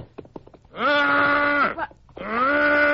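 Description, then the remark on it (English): A man's voice imitates a lost calf's bawl: two long, loud, drawn-out moaning calls, the second starting after a short gap, with a few faint clicks before the first. “It's just a kind of a call of a lost calf.”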